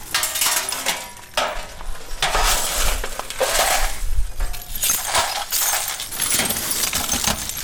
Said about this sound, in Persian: اینجا خانواده های آسیب دیده در رویداد روز گذشته شهر کابل مصرف جمع‌آوری شکسته های شیشه و وسایل خانه هایشان هستند که به اثر شدت انفجارها از بین رفتند.